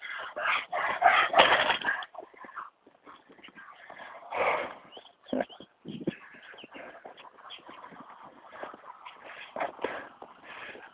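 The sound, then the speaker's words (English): A dog pants hard in quick, rhythmic, breathy bursts with occasional whimpers as a woman runs beside it, running footsteps pattering along underneath; no one speaks. “That was a lady running beside her dog.”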